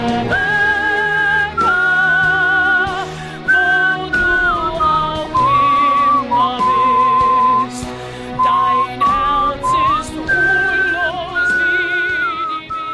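A person whistles a flowing show-tune melody, clear sustained notes rising and falling in phrases, over a dense, continuous musical backing, loud and close throughout.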